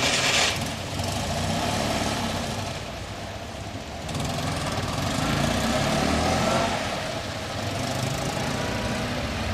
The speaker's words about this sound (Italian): nel sentire il ruggito del motore 12 cilindri a V della Enzo